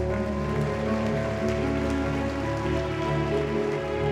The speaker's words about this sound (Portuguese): Pode aplaudir o Senhor?